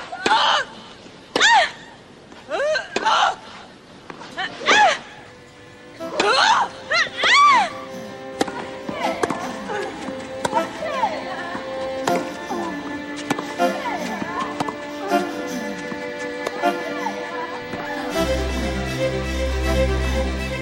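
A series of about eight short, forceful grunting screams in quick, uneven succession from professional tennis players, women and men, yelling as they hit the ball, then giving way to a steady musical drone.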